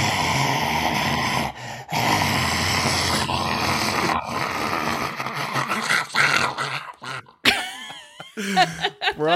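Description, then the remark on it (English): A person being interviewed imitates a zombie with a long, raspy, gravelly growl, rising into strained, wavering groans near the end. “we ask all of our interviewees to do a zombie sound.”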